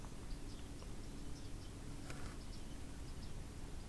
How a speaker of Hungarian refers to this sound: Nem tudom, de sok madár hang van, hallod?